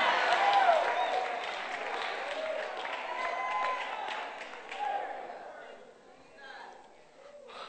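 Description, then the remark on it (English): An audience claps and shouts together in a dense, roaring wash as the preacher urges them to shout, loudest at the start, then swelling and easing in waves, with individual raised voices cutting through before it thins toward the end. “Y'all better shout. Y'all ain't shouted all day.”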